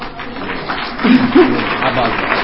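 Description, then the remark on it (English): An audience claps in a dense, steady patter that swells slightly partway through, with murmuring crowd voices mixed into the applause. “You know, y'all clap.”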